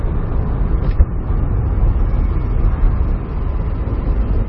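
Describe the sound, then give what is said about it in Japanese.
A turbocharged car engine drones loudly and steadily, with a short puff of blow-off valve hiss early on as the turbo stops taking in air, a sound deliberately designed in; no voices, just continuous low rumble throughout. Cloudy, dry weather, outside temperature 7 degrees. “わざとプシュンっていうように作ってあるんですよ、”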